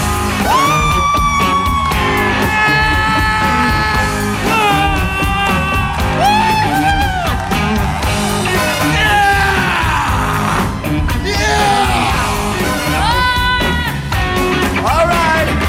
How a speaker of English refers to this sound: French people scream.